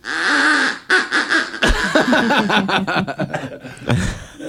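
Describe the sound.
A duck call sounds loud: one long nasal honk, then a quick run of choppy, raspy quacks tumbling in an uneven rhythm, ending in a final drawn-out squawk.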